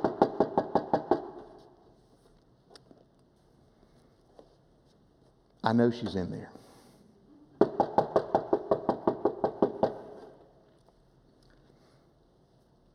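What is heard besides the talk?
knocking on a door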